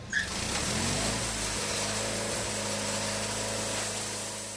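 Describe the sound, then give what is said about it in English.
A sawmill band saw runs steadily through a log, a loud continuous grinding hiss over a deep motor drone that holds for several seconds and eases slightly at the end. “threads it through the carriage, checks gauges, and returns to sawing.”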